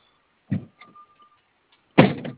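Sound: car doors being shut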